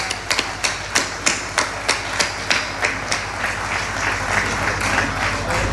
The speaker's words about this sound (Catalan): Un fort aplaudiment. Un fort aplaudiment.